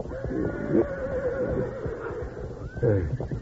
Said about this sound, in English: Meanwhile, the horses, smelling smoke and seeing the wall of flame creeping toward them, began to fuss and fret.